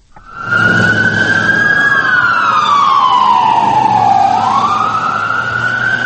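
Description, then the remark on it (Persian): A loud emergency vehicle siren wails, its pitch sliding slowly down and then climbing again over a low engine rumble, with no voices, as emergency vehicles rush to help after more than 10 bomb blasts in Baghdad, Iraq. “ماشین های تعجیلی به کمک میشتافتند.”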